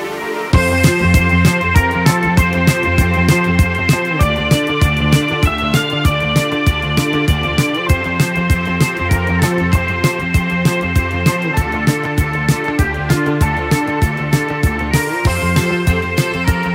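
An Italian pop song plays loud and full, with a steady driving beat, bright synth and bass lines repeating in a regular pattern throughout.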